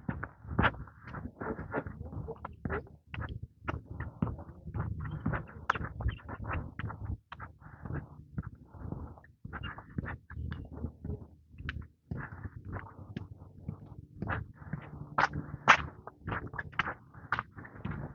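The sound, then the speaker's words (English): Busy bird chirping overhead in a flowering tree, a steady stream of quick, sharp chirps repeating over outdoor background noise and low rumble, with a few brighter, louder calls near the end. “Somebody chirping up a storm up there.”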